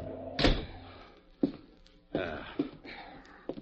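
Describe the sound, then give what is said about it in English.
A door is kicked shut with a loud wooden thud, followed by a few softer knocks and bumps scattered over the next few seconds. “Kick the door shut.”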